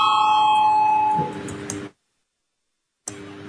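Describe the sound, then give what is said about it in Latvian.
A parliament voting bell rings before a vote on a draft decision to declare a state of emergency. It gives a steady, sustained electronic tone for about a second, then fades into background noise and a short silence before the ambient hum returns. “Lūdzu zvanu, balsosim par lēmumu projektu par ārkārtējās situācijas izsludināšanu.”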